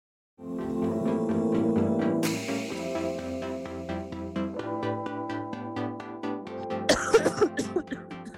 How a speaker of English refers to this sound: Oh my god, are you okay? Sorry, I have a cough.